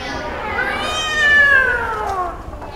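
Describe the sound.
A person imitates a robot cat's meow with one long, drawn-out call that rises in pitch and then slowly falls, fairly loud, with no other talking.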